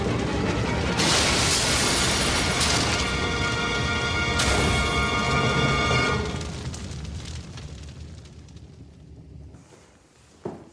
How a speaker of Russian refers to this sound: Двое бандитов выпрыгивают из кабины, а грузовик, кувыркаясь, падает с высокой кручи и взрывается.